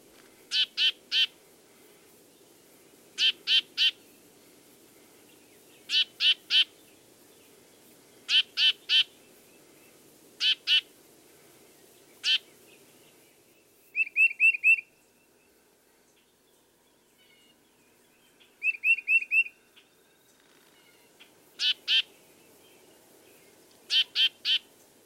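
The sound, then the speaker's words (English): A tufted titmouse repeats harsh, nasal calls in clear sets of two or three, spaced a few seconds apart, with two brief buzzy trilled notes mid-sequence. Distinct, with no talking. “Besides his whistled songs, the titmouse also has a surprising variety of other vocalizations. One which is commonly heard is a nasal call.”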